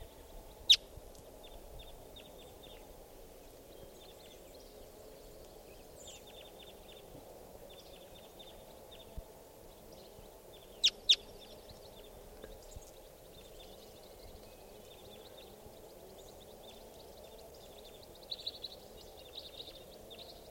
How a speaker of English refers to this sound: This is that female. Other wild crossbills coming in here. One other bird. And this is that female.